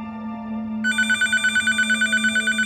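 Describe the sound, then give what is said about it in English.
A telephone in a kitchen in Southern California rings with a rapid, warbling electronic trill that starts partway through and repeats in quick pulses, loud, over a steady low hum, before Floyd Landis grabs the receiver and answers. “Landis anxiously grabs the receiver and answers.”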